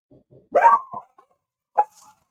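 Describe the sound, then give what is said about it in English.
A dog gives two sharp barks, a longer one followed by a shorter one a moment later, preceded by a couple of soft, faint yips. No one speaks. “well, the dogs made it my turn, guys.”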